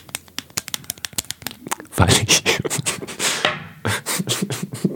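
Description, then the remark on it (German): A pen scratches across paper in quick, uneven strokes as someone writes a short note, starting with sparse ticks and then building into denser, louder scribbling. It sounds dry, with no voices. “Und ich mache mir noch eine kurze Notiz,”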